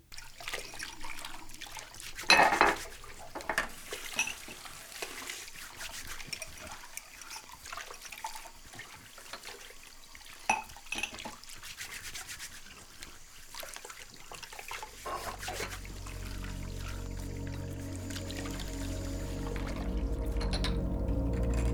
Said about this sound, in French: Et pendant que l'eau mousse et que l'éponge frotte, peut-être que l'adrénaline redescend un peu. Tes mains plongées dans l'eau chaude se décrispent enfin